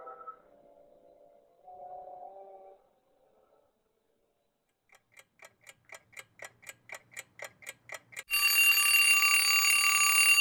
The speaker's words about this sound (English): Well, there goes the trusty old Heirloom Radio studio alarm clock reminding me that this show is over.